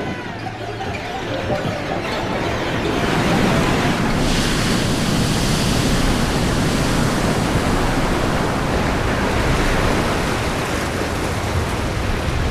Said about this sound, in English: There was sand around her, and white waves crashing, and water draining off the shingle.